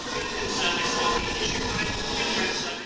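A train rumbles steadily through Southfields railway station in west London, a continuous broad roar with a faint metallic hiss on top, constant for the whole stretch, with indistinct background murmur.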